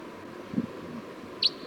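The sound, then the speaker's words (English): A single short, high-pitched chip note from a wild crossbill down the hill rings out faintly near the end, after a soft low thump, over a quiet outdoor hush with no talking. “Sounds like there was a wild crossbill down the hill.”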